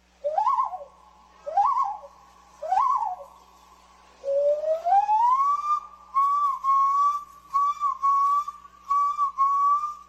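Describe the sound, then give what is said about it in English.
A person imitates a common loon at the annual loon calling competition at the National Loon Center in Cross Lake, Minnesota: three short swooping hoots, then a long, loud wail that climbs in pitch and wavers in repeated pulses, with no talking. “Each year, adults and children gather in Cross Lake, Minnesota, to celebrate the incredible sounds of the common loon, the state bird of the land of 10,000 lakes. Some impressions are striking.”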